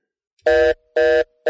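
A telephone rings in loud, evenly spaced buzzing bursts, two full rings and the start of a third, each with a steady electronic tone and a brief gap between them, with no voices.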